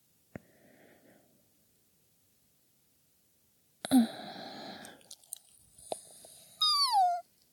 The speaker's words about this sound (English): Cute yawns and all. I feel so comfortable around you. I can yawn. My frankly ridiculous, adorable yawns.